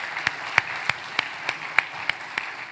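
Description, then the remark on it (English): A church audience breaks into applause for those who decorated the church, a dense wash of clapping hands with sharper claps rising out of it at a steady, roughly even rhythm, moderately loud and with no voices over it. “Let's give a clap offering to those who came and decorated it.”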